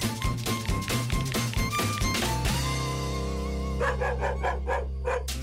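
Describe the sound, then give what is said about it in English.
A small brown dog yaps in a quick run of short, sharp barks over steady background music, then pauses before another brisk series of yips. “Go, your little brown dog, go.”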